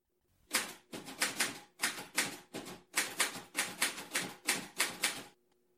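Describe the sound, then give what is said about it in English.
Rapid bursts of typewriter keys clack as a newspaper column is typed, struck in quick clusters separated by brief pauses, with no voices present. “are you finished typing tomorrow's column yet?”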